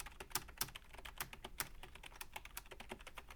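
Steady typing on a chunky, heavy-sounding computer keyboard, with rapid irregular clacks of keys and no voices.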